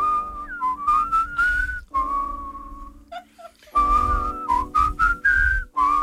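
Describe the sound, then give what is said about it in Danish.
A person whistles a bright, wavering melody in two phrases separated by a short pause, clear, with rhythmic tapping or low thumps underneath and no talking. “Men hvor meget vi skal fløjte med, det må vi lige vurdere undervejs.”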